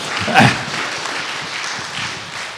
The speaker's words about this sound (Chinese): 很棒哈，哇，掌声鼓励，掌声鼓励哈。